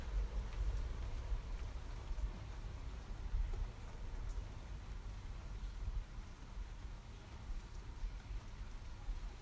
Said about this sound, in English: Well, I think it's over. Still raining a little bit.